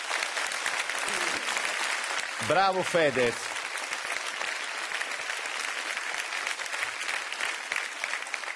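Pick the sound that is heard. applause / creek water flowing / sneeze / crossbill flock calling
applause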